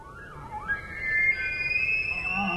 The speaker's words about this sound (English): To me, it almost reminds me of Tibetan throat singing. The way the different sounds that the elk can produce out of their throats and their apparatus for making sound is phenomenal. It's very singing. It is very much like singing.